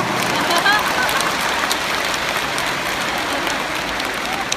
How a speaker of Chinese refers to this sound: 鼓掌。